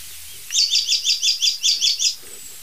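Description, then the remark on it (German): An icterine warbler perched in an oak sings a quick run of about nine repeated, chirpy high notes in a steady rhythm, clear, with a quiet outdoor background and no talking. “Wir lassen den Gelbspötter weiterziehen.”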